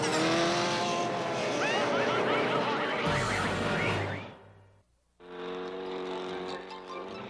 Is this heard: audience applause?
no